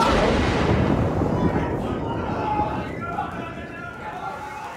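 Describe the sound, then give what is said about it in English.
A loud lightning strike and thunderclap in an auditorium, hitting a man in the ninth row, a dense crackling roar that rumbles continuously for several seconds and eases off only slightly toward the end. “You didn't expect to come to this auditorium today and be killed by lightning, and yet...”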